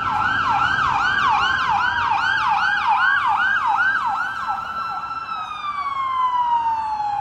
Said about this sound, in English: Must be about 30 or 40 police cars I've seen come past there.